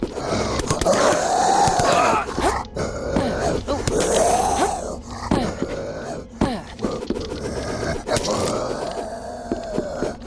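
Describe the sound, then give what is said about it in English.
A video game dog sound effect plays over and over: loud, groaning, grunt-like yelps repeating about every two seconds, with scraping and thudding game noises around them. “So, worst dog sound ever.”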